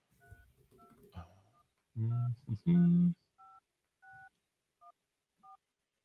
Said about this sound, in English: All right, I'm gonna turn my phone on here. So let me turn it up so people can hear. And I'm gonna dial the number. You should be able to hear me dialing, but I'm not gonna tell you the number.